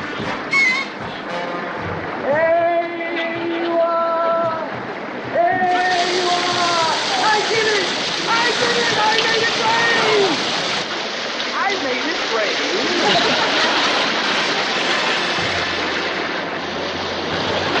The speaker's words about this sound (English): it's raining, there's no sense hanging around.